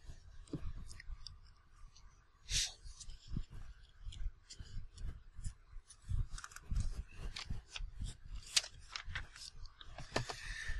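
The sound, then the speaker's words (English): Soft crinkling and rustling of thin paper as pages are turned, with sharp papery flicks scattered irregularly over a quiet background and no talking. “Still pretty tough to turn these thin pages.”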